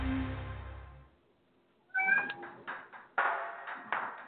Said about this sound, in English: My cat's in the studio.